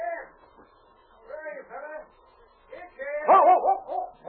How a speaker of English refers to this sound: Hello, boy. Nice dog. Come on, fella. Good dog. Let me pet you.